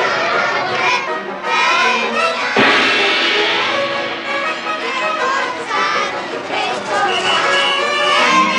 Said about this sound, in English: We'll hear a gong in the music as the two groups chasing Gidget collide on the stairs.